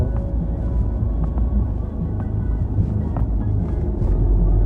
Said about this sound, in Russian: Мне на этой машине нравится. Он дизельный, он такой более грубый. Да, прикольно звучит. Такой трактор маленький. Да, да. Он сам вот этот двигатель двухлитровый тоже, он такой грубоватый по своей шуму. Его называют трактором маленьким.